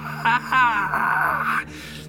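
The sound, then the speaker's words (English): A voice imitates the high-pitched screech heard from a body being checked, which starts as a low growl. The sound rises into a strained, wavering wail that holds steady for about a second before cutting off, with a faint breathy tail afterward. “It turns into more of a screech, high pitch.”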